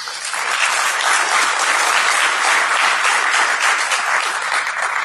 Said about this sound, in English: So small applause for him if you're willing.